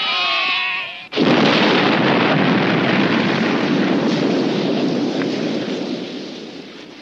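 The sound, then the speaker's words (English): A sheep bleats briefly, then a sudden, loud dynamite explosion, set off by D'Ambrosio to seal Rizzo's grave 200 feet deep, bursts out and rolls on as a heavy rumbling roar that slowly fades over several seconds. “And later, the boy heard an explosion.”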